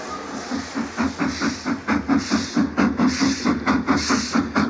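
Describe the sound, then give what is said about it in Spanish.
A steam train packed with passengers, some riding on the carriage roofs, runs steadily, its rapid rhythmic chuffing pulsing about three times a second over a low rumble, with bursts of hissing steam rising and falling throughout. “Junto a ellos pasan el pastor Charlie y Kasturba, que tras refrescarse, vuelven al tren.”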